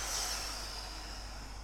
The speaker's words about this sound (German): Dann probieren wir das nochmal. Wir atmen jetzt mal tiefer ein. Dann wird aufgepustet.